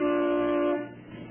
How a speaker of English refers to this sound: Well, toot the horn. We'll see if he's home.